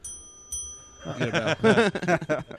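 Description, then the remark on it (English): A bell rings with a steady, high metallic tone and is struck again partway through. A voice then starts talking over the lingering, fading ring. “That sounded like the death bell.”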